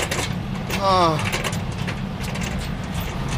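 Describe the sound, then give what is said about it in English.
A Department of Public Works truck engine runs steadily, its low rumble continuous throughout, with a brief rising squeal cutting in near the start before the drone carries on unchanged. “Back in the Department of Public Works truck”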